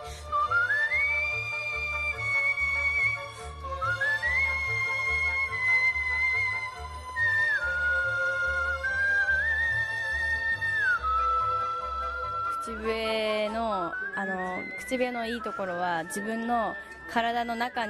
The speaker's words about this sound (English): says that although she's always whistled at home while washing the dishes, she's been a competitive whistler for less than a year.